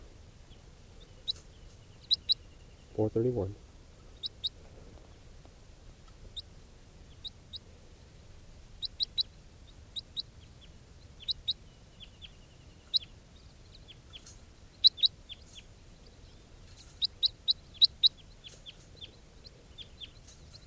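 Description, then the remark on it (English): A captive juvenile crossbill, bird 431, gives short, sharp, high-pitched chip calls, singly and in quick pairs at irregular intervals throughout. A voice briefly speaks near the start. “That juvenile who recorded pre-capture will be bird 431. And this is 431 in captivity.”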